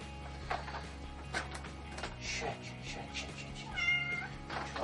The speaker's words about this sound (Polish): Mam kota, spróbujemy go zamknąć w bańce. Jak widzicie, mu już się nie podoba, więc coś mi się wydaje, że niestety to nie wyjdzie.